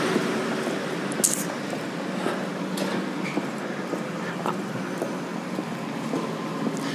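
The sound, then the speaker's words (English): A train rolls past on the rail track, a steady broad rumbling roar with scattered metallic clacks and squeaks, continuous throughout, with no one talking. “Kind of got a little bit away from the train. I want you to be able to hear that for sure, but I do think it would get annoying if I was walking around that track the whole time.”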